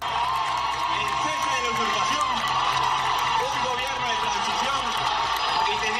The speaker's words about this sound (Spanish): Sonido hace un año, miles de venezolanos se dieron cita en este mismo lugar, en la Puerta del Sol de Madrid, coincidiendo con el juramento de Juan Guaidó. Pedían a Pedro Sánchez que reconociera a Guaidó como presidente.